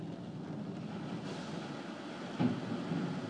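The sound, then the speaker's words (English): Steady mechanical rumbling and whirring from car wash machinery cleaning a car's wheels, with a sudden jolting clunk partway through before the low churning carries on. No one speaks. “Oh, I see, it's cleaning my wheels. I was thinking, what's that jerky thing going on?”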